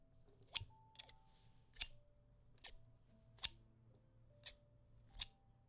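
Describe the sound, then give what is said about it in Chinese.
Scissors snip through a piece of clothing, cutting it to shreds, in a steady series of about seven crisp cuts spaced under a second apart, with a quiet low hum underneath and no one speaking. “这么好看的衣服穿在你身上真是可惜，不如用剪刀剪碎吧。”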